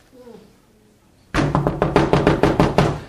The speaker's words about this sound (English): The friend had to keep on knocking.